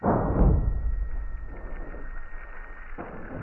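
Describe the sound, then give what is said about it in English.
A seismic shock picked up by an accelerometer buried 3 feet underground plays back as a deep, booming thud that decays into a long low rumble, with a few fainter pulses following at intervals. “This one was buried 3 feet underground.”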